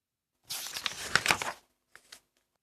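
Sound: paper bag being crinkled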